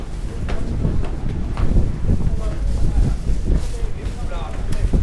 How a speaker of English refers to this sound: Okay, I'm going through another wind tunnel here. This is the exit from the building. And the cold air is rushing in to the basement.